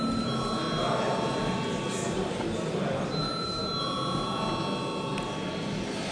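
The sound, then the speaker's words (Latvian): The Saeima parliament voting bell rings before a vote on declaring urgent a bill amending the agriculture and rural development law: a steady, continuous, shrill metallic tone for several seconds over a low murmur of background noise, holding a constant level from start to finish. “Lūdzu zvanu.”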